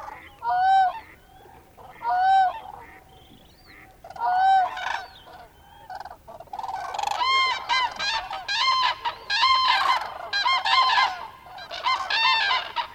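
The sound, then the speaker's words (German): Overwintering geese at a small rain-formed pond in the Cabaneros wetlands honk in a few separate, nasal calls at first, then many birds join in a loud, overlapping chorus of high honking that continues steadily to the end. “Die Feuchtgebiete von Cabaneros, wie dieser kleine Teich, der sich aufgrund der reichlichen Regenfälle des letzten Herbstes gebildet hat, haben während der letzten 3 Monate Tausenden von überwinternden Vögeln als Zufluchtsort gedient,”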